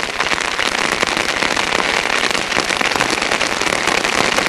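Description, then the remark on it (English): Steady night-long drizzle drumming on a poncho at night in the jungle in Vietnam, a dense, continuous patter of countless tiny drops with no pauses and no voices. “Or the night-long drizzle drumming on your poncho.”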